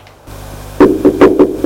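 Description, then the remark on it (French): Someone raps on a door five times in quick, fairly even succession: loud, hollow knocks over a low steady hum, with no talking. “On a frappé à la porte.”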